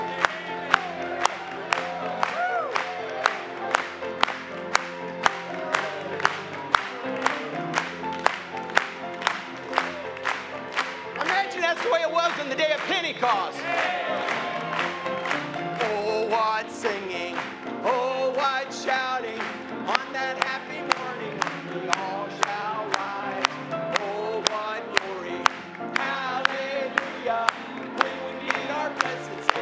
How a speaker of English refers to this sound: Can we clap it one more time?